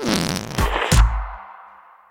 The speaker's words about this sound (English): If everyone knows the whoopee cushion, why does no one get credit for it? Is it a brand? A name?